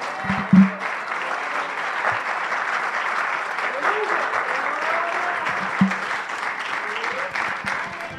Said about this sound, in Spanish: Es más, démele un aplauso a su nombre, gloria, aleluya.